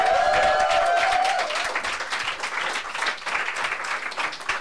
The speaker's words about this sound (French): On l'applaudit encore, s'il vous plaît.